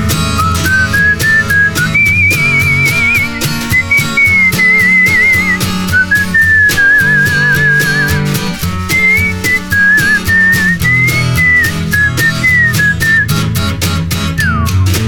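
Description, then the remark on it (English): A bright whistled melody glides and wavers over a full band backing with steady drums, carrying the tune alone without any singing for the whole stretch. “Whistle solo.”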